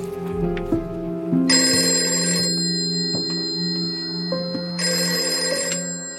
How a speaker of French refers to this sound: Jusqu'au moment où le téléphone sonne, enfin. Il est 21h45, une conversation s'engage.